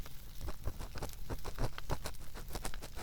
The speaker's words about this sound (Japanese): 私、この暖炉の音って癒し効果があるなと感じます。